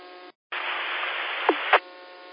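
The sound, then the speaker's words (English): Steady, loud hiss of white noise from a Yazoo radio on the 610 repeater, cutting out briefly near the start before resuming as continuous static, with two short chirping blips toward the end. No one speaks. “It will receive them really well, but when it comes to like the 610 repeater, all I hear is straight out white noise.”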